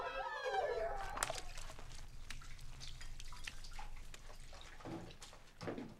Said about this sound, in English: Now Sue's doing the dishes.